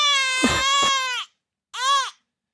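A baby wails in two loud bursts: a long strained cry of about a second, a short pause, then a shorter rising-falling cry. No one speaks.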